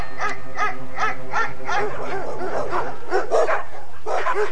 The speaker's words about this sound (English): Just laser beam tripwires, motion detectors, surveillance cameras, and the recorded sound of German shepherds barking.